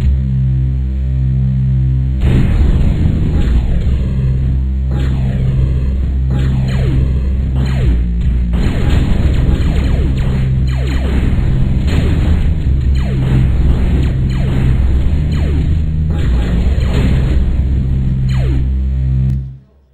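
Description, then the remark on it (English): Loud, rapid bursts of synthetic gunfire and booming explosions from a Flash versus shooter video game with a split-screen mode repeat over a steady low electronic drone, with downward zapping sweeps and no talking, ending abruptly. “It is essentially a versus shooter thing with a split screen mode.”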